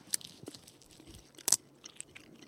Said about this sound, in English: Okay, here on the count of three, we're all going to take a bite and chew, but not swallow, this sour wood. Let's go. 1, 2, 3.